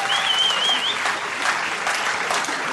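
An audience claps steadily, a dense, even wash of applause throughout, with a brief high whistle near the start.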